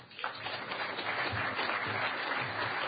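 An audience breaks into steady applause for the person who will introduce the event's sponsors, many hands clapping together in a dense, continuous wash of sound that swells quickly and holds at a fairly even level throughout.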